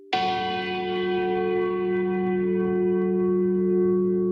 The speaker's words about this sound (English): In Samoa's capital, Apia, church bells ring out to welcome the faithful to worship.